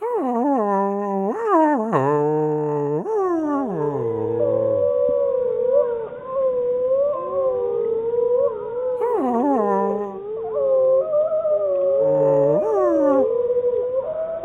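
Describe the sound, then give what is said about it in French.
Two wolves, a pack of two, howl together in long, wavering, overlapping tones that rise and fall, with a few sharper yips and whines mixed in, sustained throughout. “C'est un enregistrement de deux loups, d'une meute de deux loups.”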